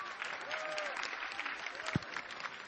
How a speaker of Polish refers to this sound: Gorące brawa